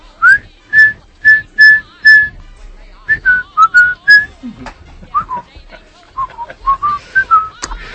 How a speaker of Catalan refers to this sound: Et dic el meu sentiment en aquest moment? Expressa'l, sisplau. Ho faré xiulant, vale? A veure...